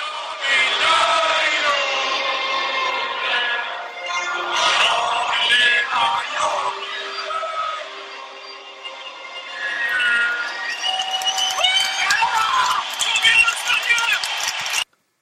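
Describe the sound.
A large stadium crowd at Friends Arena, in the Camp Sweden supporters' section, roars and chants in unison, a dense, continuous wall of many voices that dips briefly a couple of times before swelling loudly again toward the end.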